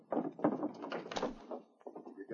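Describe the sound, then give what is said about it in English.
The door to a back room in a roadhouse creaks and scrapes as it is pushed partway shut, left open just wide enough to point a gun through, a drawn-out movement lasting a couple of seconds with a few soft knocks and rattles. “As the roadhouse owner stood with a frightened look on his face, the outlaws went into the back room, leaving the door open just wide enough to point a gun through.”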